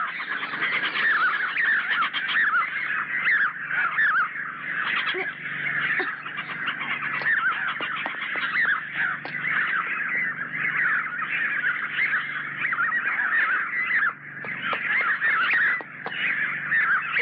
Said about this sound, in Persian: چرا پرنده هست؟